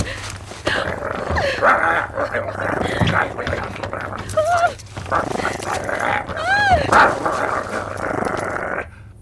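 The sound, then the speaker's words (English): A coyote growls steadily, its low rumble broken by a few sharp, rising yips, with some vocal noise mixed in. “Motherfreaking coyote! You took my phone!”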